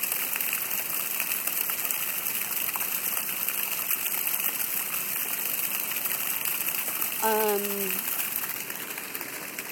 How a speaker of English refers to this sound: Anyway, we're right by a fountain, a double fountain.